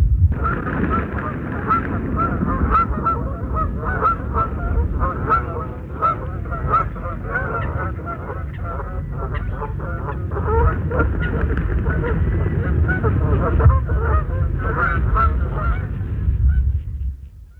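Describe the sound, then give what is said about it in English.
A flock of Canada geese flying in at the Wildfowl Trust at Arundel honks continuously, many overlapping calls in a dense, rhythmic chorus over a low rumbling background, loud as the birds arrive, then cutting off abruptly. “So here's our Canada geese. This is at the Wildfowl Trust at Arundel, and there's a flock of Canada geese coming in.”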